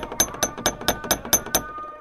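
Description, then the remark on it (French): Seven quick, evenly spaced knocks on the door of a home at noon, sharp and fairly loud with a slight ringing edge, tapping out a steady rhythm before stopping, with no voices. “À midi, Mahmoud frappe à la porte de sa demeure.”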